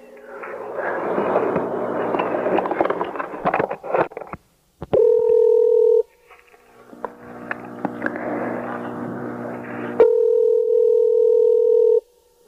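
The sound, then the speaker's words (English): A loud, steady telephone dial tone hums twice, about a second and then two seconds long, each following a stretch of dense, crackly noise. No one speaks. “Has your phone been off the hook?”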